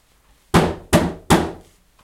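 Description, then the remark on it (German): Someone bangs on a leaking toilet with water running out of it, three times in quick, even succession. Each hit is a loud, hollow thunk with a short ringing decay, and no one speaks. “Warte mal, ich glaube, ich hau mal hier.”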